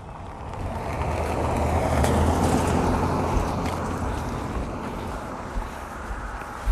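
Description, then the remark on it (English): A car drives past on the road, a broad rushing roar that swells over a couple of seconds and then slowly fades, with wind noise buffeting the microphone throughout. “Every time a car gets past, Jax wants to run.”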